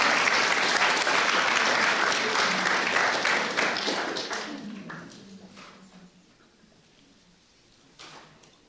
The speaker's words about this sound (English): Why don't we give a round of applause for our wonderful helpers?